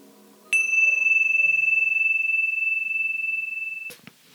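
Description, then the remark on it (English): A single meditation bell is struck to begin a meditation and rings out clear and steady, its pure tone sustaining for about three seconds before fading, followed by a soft brushing sound. “So we'll begin with a bell.”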